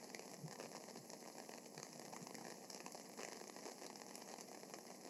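Light rain patters steadily outdoors, a soft continuous hiss of drops on surfaces with faint scattered taps, no voices, holding an even level throughout.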